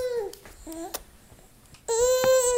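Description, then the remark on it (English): A newborn baby babbles and fusses in short, high-pitched bursts, then breaks into a loud, sustained cry near the end. No one else speaks. “And think about newborns.”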